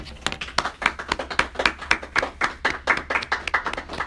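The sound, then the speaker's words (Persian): An audience claps steadily, a dense patter of many hands forming sustained applause at moderate volume, with no voices over it. “به احترامشون تشویقشون کنم.”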